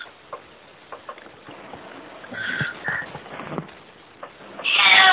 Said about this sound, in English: I see we have a cat giving their opinion, too.